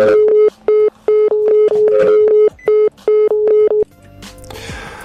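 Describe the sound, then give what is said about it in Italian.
A rapid series of short, loud phone-dialing tones in an uneven rhythm as a call is placed to the president of Assist, followed by a brief burst of hissy line noise as the call connects. “Adesso sto cercando di chiamare per voi”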